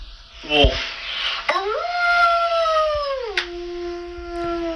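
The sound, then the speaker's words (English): A girl imitates a wolf howl, rising into a long sustained tone that slides downward and holds, clear, with a short sharp onset before it. “This girl makes mimicking animal sounds.”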